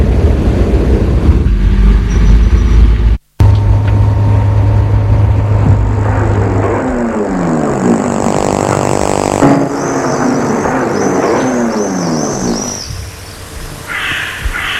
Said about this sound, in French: Enfin, ils sont arrivés. La voiture s'est arrêtée devant la petite gare de la ville.